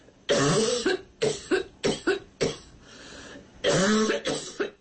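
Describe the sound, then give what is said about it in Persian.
A series of harsh, wet coughs in quick bursts, roughly seven or eight, loud, with a short pause midway before a final cluster of coughs. “آنفلانزای مرغی در برخی از افراد با سرفه آغاز می شود و سپس به تنگی نفس، درد در عضلات و تب می انجامد.”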